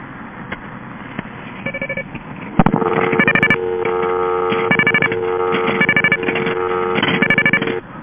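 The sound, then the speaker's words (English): Payphone coin tones from a tone box on an AT&T operator call: quick bursts of rapid high beeps repeated in groups, over a steady buzzing line tone, all thin and band-limited as if heard through a telephone. “I can't use that dumb machine. You gotta have real coins. You can't use that black box or whatever it is.”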